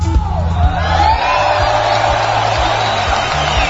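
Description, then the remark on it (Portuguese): An audience cheers and applauds in a dense, steady roar, with scattered whoops rising above the crowd noise for a few seconds, and a voice faintly present underneath. “Vamos aplaudir, vai.”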